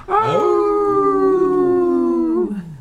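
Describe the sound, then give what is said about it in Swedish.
A person's voice imitates a wolf howl, one long sustained loud call, rising at the start, holding a steady tone, then sliding down as it fades. “Du är bra på att yla.”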